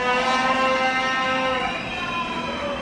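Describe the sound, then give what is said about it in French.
Loud, dense ambience of a metro station in Madrid packed with crowds of World Youth Day pilgrims, many voices merging into a steady roar, with sustained droning tones running unbroken for the whole stretch. “Et dans le métro, c'est la même cohue.”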